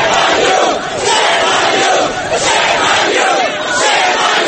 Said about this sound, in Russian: Вслед им группа горничных нью-йоркских отелей скандировала слово «позор».